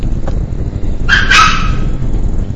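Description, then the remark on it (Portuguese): A female dog lets out one short, sharp, clear bark partway through, against a steady low background rumble with no one talking. “Peraí, deixa eu matar essa cachorra e já volto.”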